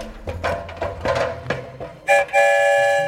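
Clanking, shuffling train noises build for a couple of seconds as passengers board the story train, then a short whistle blast gives way to a loud, steady train whistle that holds to the end, with no voices.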